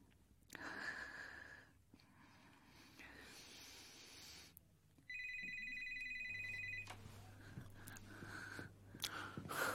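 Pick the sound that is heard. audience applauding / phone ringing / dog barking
phone ringing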